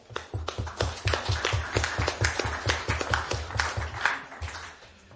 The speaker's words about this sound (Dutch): Met een applaus van ons allemaal.